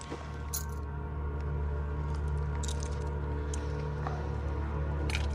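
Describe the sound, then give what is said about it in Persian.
Keys jingle and clink a few times in short, scattered bursts as they're handed over on request, with a steady low hum underneath and no one speaking. “حالا هم کلیده لطفا.”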